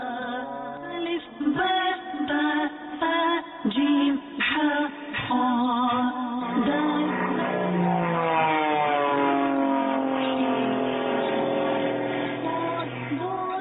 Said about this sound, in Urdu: یہ ایک اور جہاز آ رہا ہے، اب اس جہاز کا رنگ بتائیے.